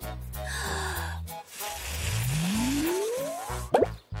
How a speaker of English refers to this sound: Watch me. I'm going to blow a big bubble.